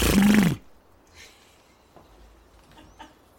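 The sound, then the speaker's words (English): A person makes one loud, buzzy lip-trill "brrr" lasting about half a second, the kind of call used to stop a horse, followed by near silence with a few faint rustles. “Is there any other alternative, any of the Ukrainian way of stopping a horse?”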